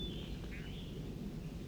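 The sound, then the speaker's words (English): Faint, high song of a bird tagged 4-3: a thin sustained whistle, then a brief lower warble, over a steady low rumble of background noise, with no voices. “Bird 4-3 singing.”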